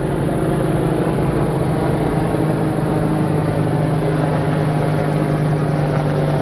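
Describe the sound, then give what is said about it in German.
A loud, steady drone of two huge helicopters passing quite low overhead, with a deep rotor hum and broad roaring noise filling the whole stretch, and no voices. “Auch wirklich zwei riesigen Riesenbrocken von Hubschrauber, die da gerade über mir wegfliegen. Ziemlich tief.”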